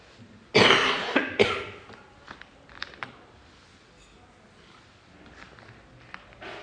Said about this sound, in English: Now, I'm going to get you to mute me while I cough, and I'm going to have a glass of water.